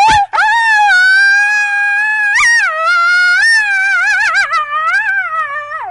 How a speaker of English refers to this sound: We're singing like a coyote.